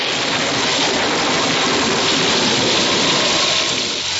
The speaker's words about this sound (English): He heard thunder and saw lightning, and then a severe rainfall started.